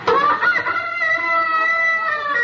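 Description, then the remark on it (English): Chickens squawk and a rooster crows loudly, a sustained, shrill, strained call holding steady for a couple of seconds with clucking mixed in at the start. “Please, friends, if you're going to throw eggs, take them out of the chickens first.”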